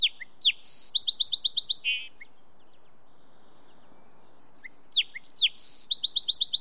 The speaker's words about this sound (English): From a woody thicket along the bank, male song sparrows belt out their chorus all day long.